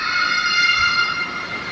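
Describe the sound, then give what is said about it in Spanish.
A metro train grinding along rails at a subway platform, with a steady high metallic screech of wheels holding several sustained tones over a low rumble, continuous and fairly loud throughout, no voices. “Imagínate que vas caminando. ¿Escuchas esto? En los andenes.”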